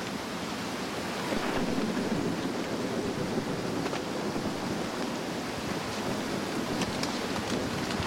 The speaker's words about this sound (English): Good sized river, this.